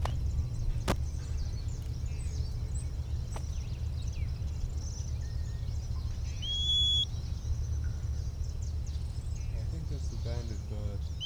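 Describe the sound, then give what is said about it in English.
A small bird nearby gives a single short, thin whistle midway through, among scattered faint chirps and twitters, over a steady low outdoor rumble. “Bird nearby, maybe giving that little whistle.”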